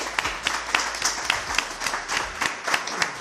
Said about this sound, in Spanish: Sí que os pediría, para cerrar, un fuerte aplauso, ya que nos ha hecho mucha ilusión teneros aquí, por favor.